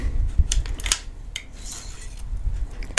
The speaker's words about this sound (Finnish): Irrota palautin jousi ja kara.